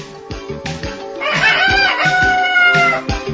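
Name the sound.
rooster crowing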